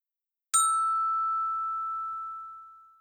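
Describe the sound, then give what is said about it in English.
A single loud bell-like ring from a door buzzer that sounds like a school fire alarm: one bright, high, steady tone that strikes sharply, then lingers and slowly fades over about two seconds, with no voices. “Just then, Miguel was startled by an unexpected noise. The noise sounded like his old school's fire alarm. Ring! It was the buzzer!”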